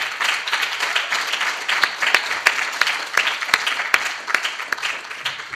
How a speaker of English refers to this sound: All right, everyone. Before we announce the winner, we'd just like to take the chance to give another round of applause for our distinguished panel.